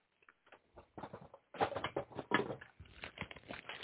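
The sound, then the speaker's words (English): Crinkly paper wrapping of a package that arrived in the mail from China rustles and crackles in bursts, growing louder and busier partway through as it is handled and torn open, with no voices. “So I finally get it today in the mail. It comes wrapped in paper.”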